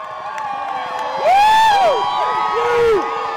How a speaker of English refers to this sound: A boisterous crowd celebrated Kaiser's victory